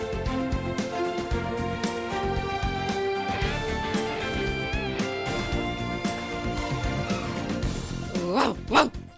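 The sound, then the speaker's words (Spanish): A dog barks loudly, a busy stretch of yelping and barking that ends with two sharp, forceful barks. “Se nota que vaya perro. Vaya perro, vaya perro.”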